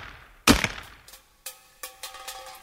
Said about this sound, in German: Wie haben die Leute denn die Dosen früher aufgemacht? Vielleicht haben die Soldaten sie ja mit einem Gewehr aufgeschossen.